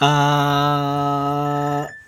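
A phone rings with one loud, steady buzzing tone held for almost two seconds before it cuts off abruptly. No one speaks over it.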